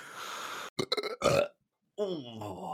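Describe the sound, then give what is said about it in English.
A rough, breathy cough gives way to a loud, gravelly burp in a few throaty bursts, then a short pause and a brief voiced sound. “Sorry, I coughed and then I burped.”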